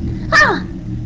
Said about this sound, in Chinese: 说不清这猫是哪里的，这令人厌恶的声音萦绕在整个黑夜里，夹杂在风里，被吹得飘忽不定，让人头皮发炸。雪落了下来，忽然间就很大，落在路上竟然有些许声响。周围一大片黑屋子里，人所能听到的也就是这猫哭、风响和雪声了。